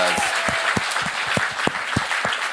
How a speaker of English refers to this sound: And I think a round of applause for all our new committee members.